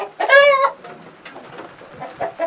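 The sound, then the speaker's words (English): Chickens cluck on a farm designed after indigenous farming practices, opening with one loud, drawn-out harmonic squawk and followed by a scatter of softer, uneven clucks and calls from the flock. “she shows me all the details of the farm that are designed after indigenous farming practices, down to how they raise their chickens.”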